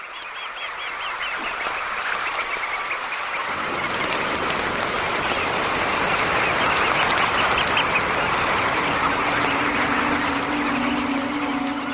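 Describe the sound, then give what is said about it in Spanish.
A large flock of red knot shorebirds, waiting for low tide at Bosham harbour in Chichester estuary, Sussex, calls continuously: a dense, overlapping chatter of many birds, with a faint low engine-like hum appearing toward the end. “Estos playeros rojizos están esperando a la bajamar”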